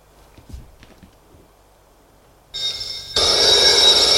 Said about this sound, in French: La sonnerie du téléphone retentit. Il a décroché.